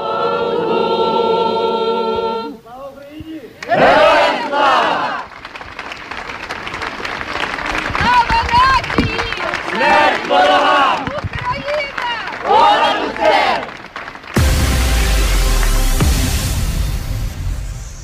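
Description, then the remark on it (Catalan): At a gathering in front of a town hall in Catalonia, organized nationally by the Catalan Association of Municipalities, a crowd shouts a cry for freedom in loud, repeated surging bursts of many voices, after a brief sustained tone at the start, then breaks into steady applause at the end. “La convocatòria s'ha fet a nivell nacional i sota el paraigua de l'Associació Catalana de Municipis i ha acabat amb un crit a la llibertat i un missatge de fortalesa, com és l'himne d'Ucraïna.”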